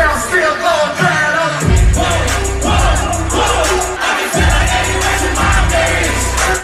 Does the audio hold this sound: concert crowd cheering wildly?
yes